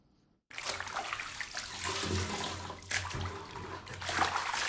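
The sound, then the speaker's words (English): After a brief silence, a woman scoops used bath water from her tub with a bucket and pours it into her toilet, a steady, rushing splash with a couple of louder sloshing surges partway through. No one speaks. “uses a bucket to transfer water she used to bath from her tub to her toilet.”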